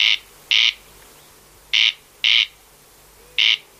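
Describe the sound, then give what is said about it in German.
Five harsh, rasping bird calls, the dry grating call of a corncrake, loud and alone. They come in an uneven rhythm: two close together, a gap, two more, then one. “Das sind jetzt zwei Beispiele, der Steinkauz und der Wachtelkönig.”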